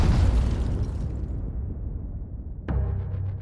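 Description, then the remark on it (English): A deep, rumbling explosion boom from a meteor exploding 14 to 17 miles above Chelyabinsk, Russia, releasing around 500 kilotons, fades slowly over a couple of seconds, then a second sharp blast cracks in near the end, followed by more low rumbling. “South of Chelyabinsk, near the border between Russia and Kazakhstan, and at 14 to 17 miles above the city, the meteor exploded.”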